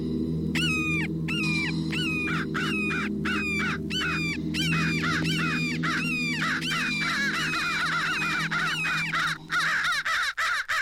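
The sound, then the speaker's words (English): A crow and hawk in a fight: loud, harsh crow caws come in rapid repeated bursts, growing more frantic and overlapping toward the end, over a low steady background hum. “Crow and hawk fight.”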